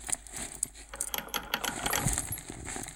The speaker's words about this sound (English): Keys.